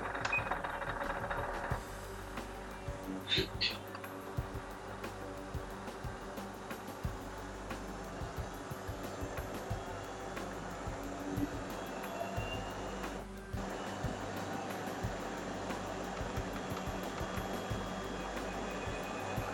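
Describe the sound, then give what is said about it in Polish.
A treadmill runs at top speed with a steady, fairly quiet mechanical whir and hum, its belt adding a faint, rapid rhythmic clatter that continues unbroken throughout. “Czyli całkiem cicho chodzi, nie jest to jakiś taki bardzo duży hałas. Tak słychać maksymalną jej prędkość.”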